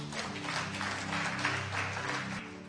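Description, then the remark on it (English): A church audience claps their hands together in a dense, steady wash of applause lasting a few seconds, with a low sustained musical tone humming underneath. “Clap your hands, church.”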